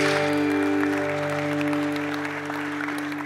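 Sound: audience applauding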